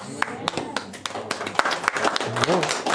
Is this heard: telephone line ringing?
no